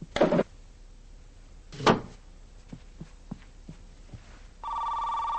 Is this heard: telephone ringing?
yes